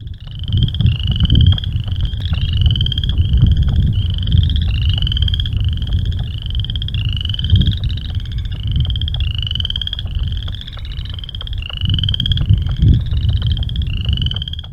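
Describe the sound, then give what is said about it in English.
A leopard frog chorus of rapid, repeated croaking calls in a steady rhythm, fairly loud, over a constant low rumble of background noise with no talking. “If you go to some other frogs, let me go with one here, the leopard frog. Those seem to be further from the water and pretty widespread. Here's what they sound like.”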